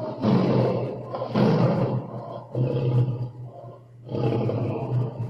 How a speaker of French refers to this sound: Cependant, il advint qu'au sortir des forêts, ce lion fut pris dans des raies, dont ses rugissements ne le purent défaire.